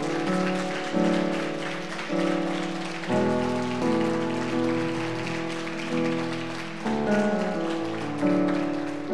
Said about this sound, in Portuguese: Amém? Toma posse disso e dê um aplauso ao Senhor, gente.